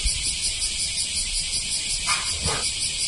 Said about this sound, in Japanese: ほんまうるさいな、セミって。